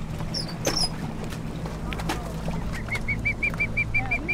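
A rescued bird, being scooped up with a net from a boat, calls in a quick run of short, evenly spaced peeps, with a few earlier squeaks, all over the steady low rumble of the boat engine.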